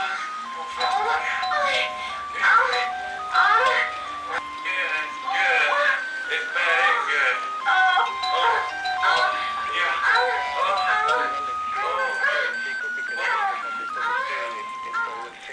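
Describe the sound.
A doorbell plays a bright, tinkling electronic melody that repeats over and over at a steady volume, with voices talking underneath the chiming tune.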